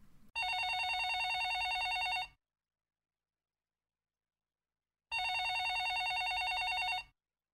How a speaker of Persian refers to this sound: غیر از اون صدای دلخراشی که مدام میشنیدیم، توی این اتاق جدید صدای یه زنگ تلفن رو هم گاهی متوجه میشدیم. ظاهراً این اتاقی که توش بودیم نزدیک به اتاق رئیس یا یکی از مسئولا بود و صدای زنگ تلفنش تا اتاق ما می اومد. یه صدای زنگ اینطوری.